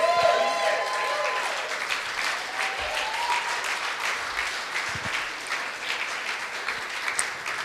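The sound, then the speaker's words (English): A church audience applauds with dense, steady clapping that holds at an even, moderate loudness for about seven seconds, with a few voices briefly audible at the start. “So without further ado, have we give a massive round of applause to my beautiful mom,”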